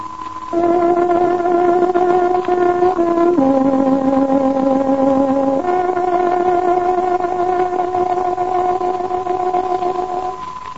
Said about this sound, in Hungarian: Kedves hallgatóink, pontos időjelzést adunk. Tárogatónk hangja 14 órát jelez.